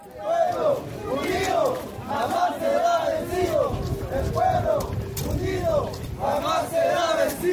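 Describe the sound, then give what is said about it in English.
A rioting crowd of hundreds of indigenous people armed with sticks, rocks and clubs roars at a polling station in Bolivia, many voices yelling and chanting in repeated rising and falling cries over a constant din of chaotic commotion, loud throughout. “found himself in the middle of rioting at one polling station, where opponents of the poll were employing a method Bolivians often use to discourage voting.”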